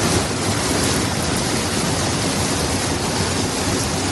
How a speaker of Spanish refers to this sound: Es el sonido de las aguas copiosas de toda la noche, con cortes de suministro eléctrico en distintas zonas, achiques de inundaciones y zonas embalsadas.